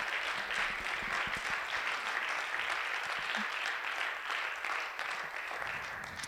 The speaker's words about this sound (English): And I think collectively we should applaud that and say thank you from the bottom of our hearts.